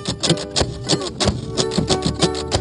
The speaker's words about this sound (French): Mais au bout d'un moment, ils démarrent. Et c'est là que ça devient intéressant. T'entends ce petit bruit de xylophone ? Bah, c'est des plaquettes accrochées au pare-choc qui tapent sur des clous plantés sur une planche sur laquelle passe l'auto.